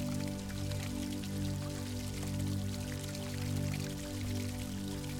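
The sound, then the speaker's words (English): Pure, clear fountain water flows steadily into a shallow pool in gentle, warm sunshine, a continuous splashing and trickling that holds even throughout, with a soft sustained droning tone underneath. “So just imagine strolling to the fountain and watching the pure, clear water flowing into a shallow pool.”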